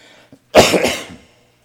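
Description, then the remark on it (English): A single harsh cough from a tickle in the throat bursts out after a brief quiet moment, loud and raspy, then trails off into silence with no talking around it. “I got to get a cough drop because I got that tickle going on in my throat.”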